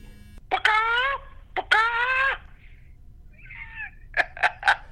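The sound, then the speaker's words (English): A person trying to imitate a turkey but making a chicken's bawk: two drawn-out, nasal squawking calls, a faint short cry, then three quick clipped clucks in a row, with no ordinary speech. “Why did you do bacock? That's a chicken.”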